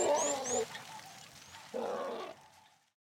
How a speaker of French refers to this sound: Oh, il est trop mignon, ce bébé éléphant. Oui, trop mignon.